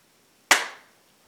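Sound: single hand clap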